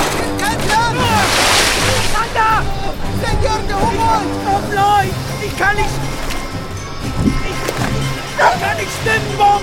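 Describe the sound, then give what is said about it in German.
Rough, stormy water of the Orinoco river surges and crashes against an overloaded boat as a violent gust of wind lashes it, with one loud splashing burst early on, while several voices shout and call out over the steady roar of wind and waves; the boat rocks and water runs in. “Eine heftige Windböe peitscht auf das überladene Boot. Es schwankt bedrohlich, immer mehr Wasser läuft hinein.”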